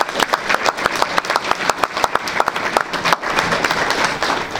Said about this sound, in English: That's worth a round of applause. Yes, it is.